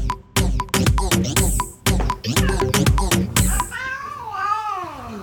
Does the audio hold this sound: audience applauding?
no